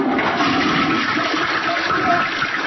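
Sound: toilet flushing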